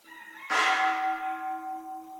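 signal or alarm, meditation bell being struck

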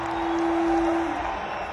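crowd, festival crowd cheering

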